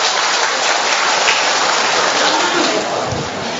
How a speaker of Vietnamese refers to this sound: Rồi cho một tràng pháo tay, cảm ơn bà nhiều.